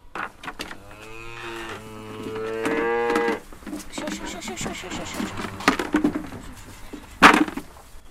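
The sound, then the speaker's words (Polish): Goats bleat in a barn, one long wavering cry followed by shorter calls, with rustling and a sharp clatter near the end. “To prawda, że koza wszystko zje.”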